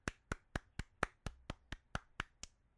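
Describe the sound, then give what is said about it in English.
A single person claps eleven times at a steady, fairly quick pace, each clap sharp with a brief decay, no voices present. “All right, I'm only one guy. I can't really clap like that.”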